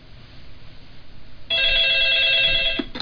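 A loud, steady telephone ringtone starts abruptly about halfway through and sustains with bright electronic tones before cutting off, preceded by low background noise with no one speaking.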